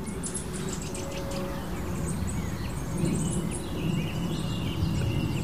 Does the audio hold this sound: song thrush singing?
yes